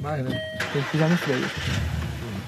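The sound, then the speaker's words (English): A bulletproof car's engine cranks and catches, then runs with a steady mid-pitched hum, while people talk over it throughout. “The divide between rich and poor, though, was stark on our drive through the compound in his bulletproof car.”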